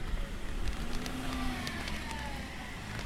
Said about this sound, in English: Wait till that car goes.